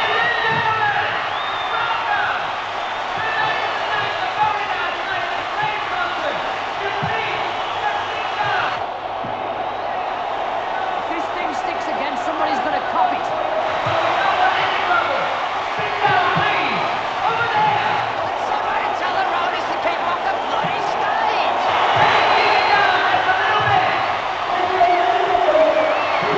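A large concert crowd cheers and shouts in a continuous, loud roar as a man on stage appeals to it, with voices rising and falling in waves and no break for the whole stretch.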